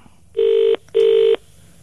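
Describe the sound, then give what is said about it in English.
Two steady electronic ringback tones, each about a third of a second long with a short gap between, sounding clearly like an outgoing phone call ringing on the line. “Okay, now it's ringing.”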